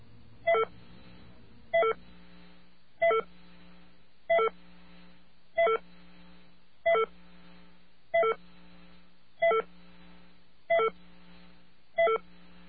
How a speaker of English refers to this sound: Okay, what we are doing now is we are rewinding a machine. And when that machine rewinds, you will hear the entire phone call.